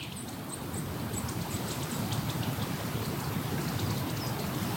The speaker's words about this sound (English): Sorry. Listen to that wind. Yeah, is that wind or like a jet? That's crazy. But there was wind through your trees. Wind through my trees. It's very atmospheric.